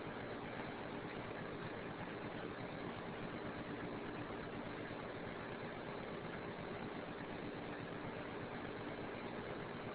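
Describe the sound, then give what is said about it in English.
A steady, continuous engine drone about 2 feet from the engine, loud and unchanging for the whole stretch with a low rumbling vibration underneath and no voices. “And I'm taking the fourth picture right up next to the engine here.”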